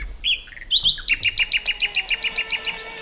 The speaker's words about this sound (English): And one night when I'd been playing for hours, I suddenly heard the note of the most heavenly bird.